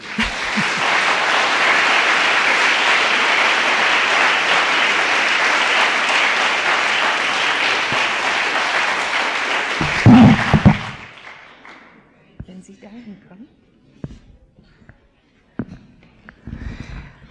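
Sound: audience clapping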